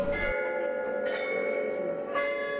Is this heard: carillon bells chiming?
yes